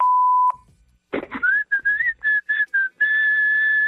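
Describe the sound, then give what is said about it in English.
A short electronic beep, then a breathy puff of air gives way to someone whistling: several short, wavering notes followed by one long, steady held whistle, fairly loud. “Can't believe you don't know how to whistle.”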